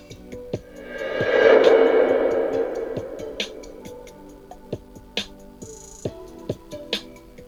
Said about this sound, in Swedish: Men man hör att det finns också en del ljudeffekter med, som tickanden och saker som ligger också ganska starkt. Men det är väl för att skapa stämning,